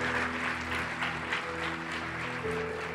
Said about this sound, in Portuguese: Se você foi edificado pela essa palavra, está feliz com esse jovem aqui na frente, aplauda o Senhor Jesus.